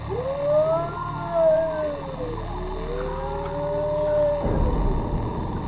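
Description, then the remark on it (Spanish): Eerie, drawn-out wailing cries of a baby heard over a radio, bending into long, rising and falling cat-like howls, several overlapping over a low hum before cutting off into a burst of noisy static. “Estuvo aterrador porque por momentos estos llantos se convertían en escalofriantes aullidos de gato.”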